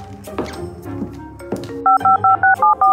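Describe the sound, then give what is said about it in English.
A quick run of six clear touch-tone keypad beeps, evenly spaced and loud, as children dial a borrowed phone to call their uncle, following a stretch of busy background clatter and thumps. “Can we borrow your phone? We need to call Uncle Mike.”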